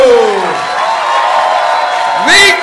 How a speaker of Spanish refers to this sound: ¡Dama y caballero! ¡Gracias, puñeta! ¡Un aplauso